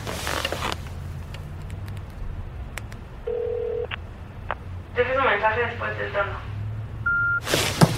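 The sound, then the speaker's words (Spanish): A telephone line rings out with a steady electronic tone and goes unanswered. A brief recorded voice in Spanish asks the caller to leave a message after the tone, then a short, clear voicemail beep sounds near the end. “me puedes ni contestar el teléfono.”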